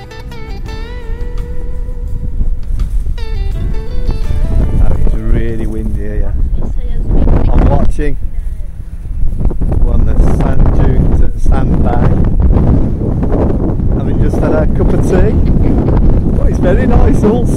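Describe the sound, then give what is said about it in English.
Loud, steady wind blowing a gale buffets the microphone on an open-sea beach, a continuous low roar that swells at times, with a person's voice partly heard beneath it. “We're on the beach, in the open sea, and headland on the side of us, about 3 miles away.”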